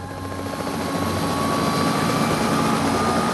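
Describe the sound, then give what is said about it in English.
A voice imitates the noise of a helicopter: a steady, loud drone with a high-pitched whine over a low rumble, holding constant and growing slightly louder over a few seconds, with no talking. “And then it went to a high pitch.”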